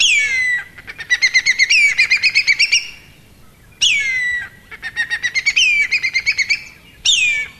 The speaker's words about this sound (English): There's a certain whistling quality to that first part of the call, don't you think? This morning, it's congratulations to Richard Stainer, who was first in with the correct answer, the whistling kite.